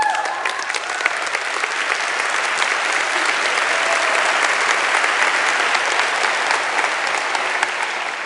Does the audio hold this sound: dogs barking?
no